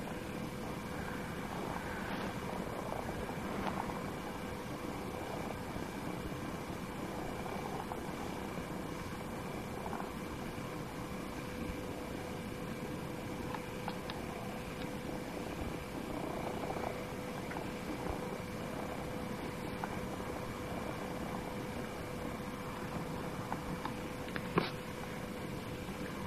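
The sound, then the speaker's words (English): A cat purrs steadily and continuously, a low rumbling drone that holds an even level throughout, with faint tonal hums in the background and no talking. “No one knows how they purr?”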